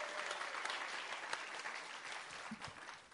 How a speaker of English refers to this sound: Give yourselves a warm round of applause. The audience who've come tonight.